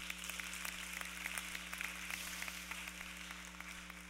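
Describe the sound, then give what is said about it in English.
An audience applauds steadily, a dense crackle of many hands clapping at an even level for several seconds, with no voices and a faint low hum underneath. “You should clap for those, because that's a really good thing.”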